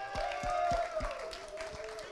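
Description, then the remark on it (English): An audience gives a round of applause for the soundboard crew, a dense patter of clapping that holds steady for a couple of seconds over a sustained keyboard tone and soft low thumps. “Let's give the soundboard a round of applause.”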